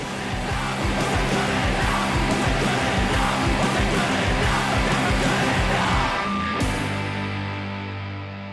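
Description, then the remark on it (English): A loud, dense emo punk song with fast, driving drums, a wall of distorted guitars and shouted vocals, ending on a ringing sustained chord that fades out. “And it's just kind of that like racing drums, racing guitars, huge walls of sound, super angsty emo teenage lyrics that you can scream along to.”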